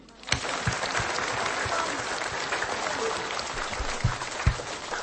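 Sustained applause from a crowd, dense and steady clapping filling the whole stretch, with a few sharper claps standing out near the start and end.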